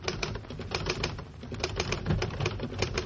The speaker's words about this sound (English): I'll type it out for you right now on my Underwood typewriter, the only typewriter with the golden touch.